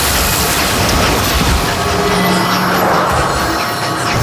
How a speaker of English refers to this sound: Thus echoed the powerful turbines of the space locomotive, whose name we save for the grand finale, so festive.